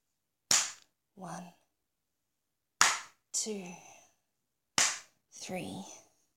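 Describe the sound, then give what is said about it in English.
Three sharp, loud slaps of a woman's hand on her own genitals, spaced about two seconds apart, each followed at once by a short vocal gasp or moan. “I'm going to slap my pussy 10 times.”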